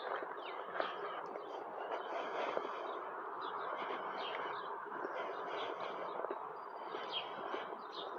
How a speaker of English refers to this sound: It's not dead sound, it's live sound. Listen to those birds.